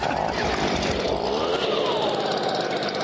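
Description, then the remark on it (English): A loud, harsh engine roar fills the whole moment, a raspy buzzing drone that surges and climbs in pitch as a pulse jet engine is started with a leaf blower, continuous with no talking. “And Nick uses his leaf blower to get the dangerous pulse jet started.”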